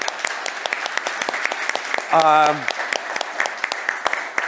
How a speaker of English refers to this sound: So on this note, I want to thank our panelists sincerely. They all deserve your round of applause.